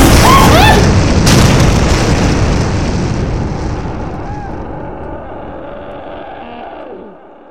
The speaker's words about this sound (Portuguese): De repente, uma explosão!